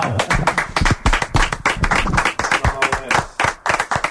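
An audience applauds Xavi Puig steadily for about four seconds, a dense, loud patter of many hands clapping with sharp individual claps standing out, and no voices over it.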